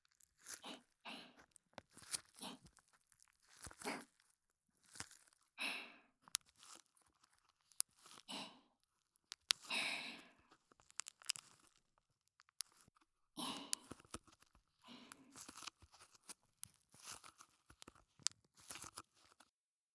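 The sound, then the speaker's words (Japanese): Crisp crinkling and crunching as a tape ball, a tool for feeling its texture and making sounds, is lightly squeezed again and again in irregular bursts, with short pauses between the squeezes and no talking. “今、軽くギュッとしたのは、テープボールというものです。”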